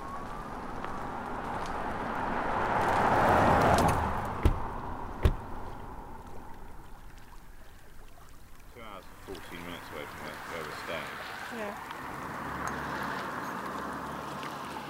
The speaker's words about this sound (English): The sound of the lapping water you can hear is the sound of Loch Ness. We can see some coppery shallows here on the southeastern side.